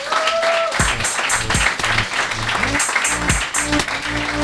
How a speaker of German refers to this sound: Applaus!